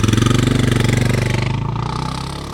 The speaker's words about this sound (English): We're continuing our westward journey, and to get where we're going, we need to cross back over John F. Kennedy Drive. Now there's traffic here, so watch out.